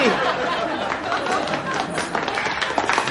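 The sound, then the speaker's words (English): Wedding guests applauding: a steady, dense wash of many hands clapping at once, loud and sustained for a few seconds, with crowd voices murmuring underneath. “Of course, the only person who wasn't applauding was the vicar.”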